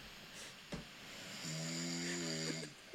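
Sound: person snoring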